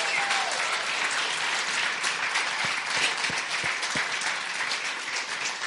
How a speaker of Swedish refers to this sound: Somebody give him praise right here. Give Jesus a big hand clap in this house right here. Ge Jesus en handklapp.